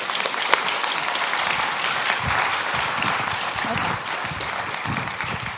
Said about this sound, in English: I have been looking forward to this talk since we found out she was going to be here speaking, and I hope you guys are too. So please, everybody, give a round of applause